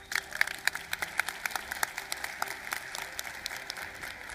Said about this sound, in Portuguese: Quando pode aplaudir, pode aplaudir.